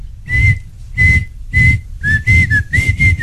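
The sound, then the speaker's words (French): Someone whistles a bright, catchy pop tune, sustained notes in short phrases with breaths between, the pitch dipping and rising in the later bars. “Attention, autre chanson.”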